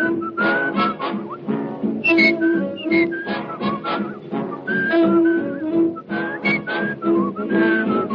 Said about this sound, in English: What you doing, whistling just to scare the ghosts away?